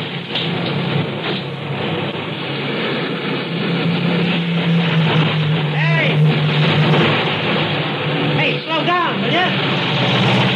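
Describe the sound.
A steady, loud roar of traffic on a four-lane highway, cars speeding past with engines droning continuously, while voices talk over the noise.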